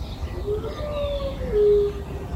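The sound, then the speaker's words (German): A dog in front of a house howls like a little wolf in a long, wavering, fairly high-pitched tone that rises and swells louder toward the end, over a steady low background hum. “Der hört uns vor dem Haus und jault wie ein kleiner Wolf.”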